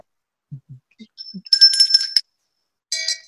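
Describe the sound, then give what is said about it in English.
A few soft low knocks lead into a bright, ringing shame bell, struck loudly once and then again after a short pause, with no talking over it. “The shame bell is back.”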